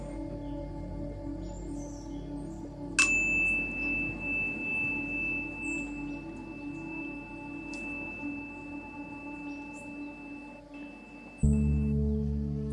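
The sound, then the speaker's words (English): A meditation bell is struck once to begin a guided mindfulness meditation session, with a sharp attack, then rings on as a clear, high, steady tone for about nine seconds over a low, steady background hum. “In a few moments, I will ring the bell to begin today's session.”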